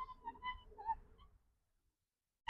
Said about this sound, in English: Does that sound bad? With his brakes on his rollerblades.